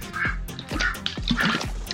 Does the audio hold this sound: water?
yes